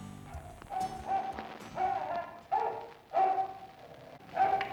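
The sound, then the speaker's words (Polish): A dog barks repeatedly, five or six loud, evenly spaced barks, heard on a thin, slightly muffled old archival recording linked to the first radio drama in the history of Polish radio, with no one speaking. “W takich wypadkach pozostaje tylko pies.”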